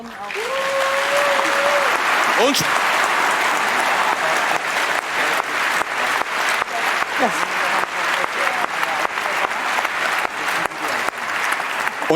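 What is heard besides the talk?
audience applause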